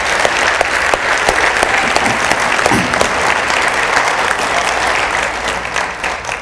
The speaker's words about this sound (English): Amen. Let's give God a ridiculous hand clap of praise.